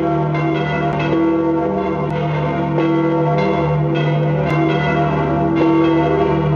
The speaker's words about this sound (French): C'est le carillon de Saint-Pierre, 6 cloches, à chacune son nom, sa note, sa taille et sa fonction, la rote, la prédica, la petite cloche campanoncino, les deux cloches latérales et la plus grosse d'entre elles, le campanone.